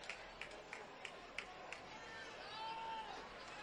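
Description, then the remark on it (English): A baseball crowd cheers steadily after Morton's two-run home run for Augusta makes it a 7-6 game. A roar of voices and rhythmic clapping come roughly three times a second, and a high whistle rises out of the noise near the end. “That brings some life back into the crowd.”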